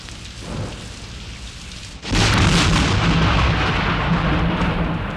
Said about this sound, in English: Thunder is the loudest sound the night can have.